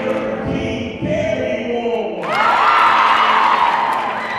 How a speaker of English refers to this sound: The energy in the room is electric. Everyone is stomping and cheering.